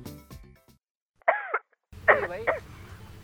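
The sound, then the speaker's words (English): A woman on a phone call coughs: two rough, voiced bursts, the first short and isolated, the second a longer cluster of hacking coughs over a low background hum, sounding slightly muffled through the phone. “…, you coughing all this time.”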